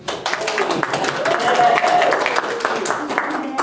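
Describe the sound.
An audience at Grace Christian Assembly in Smyrna, Tennessee applauds with steady, dense clapping for a few seconds, and a brief tonal voice or cheer rises over the clapping midway through.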